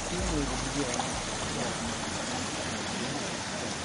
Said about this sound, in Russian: Теплицы работают не за счет электричества, а на газовых генераторах, от них и идет шум.